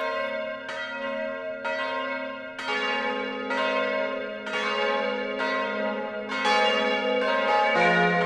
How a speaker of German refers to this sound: Und nun läuten Glocken die Weihnacht ein.